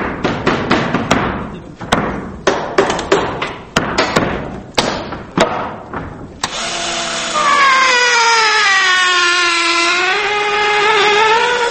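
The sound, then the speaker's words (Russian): Stage scenery being assembled at the Kyiv Theatre of Drama and Comedy on the left bank of the Dnieper: a quick, uneven run of sharp hammer knocks, then a loud power drill whining steadily, its pitch dipping and rising. No one speaks. “Сейчас в Киевском театре драмы и комедии на левом берегу Днепра идет монтировка декораций. По звукам, на слух, строят, если не корабль, то уж точно модель очередного ковчега.”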